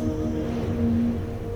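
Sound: sea waves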